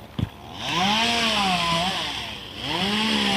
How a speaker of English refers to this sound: Yeah, I remember when these trees were all bare saplings, and now we've got guys up in them with chainsaws pruning out the extra.